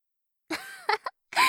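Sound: heavy coughing fit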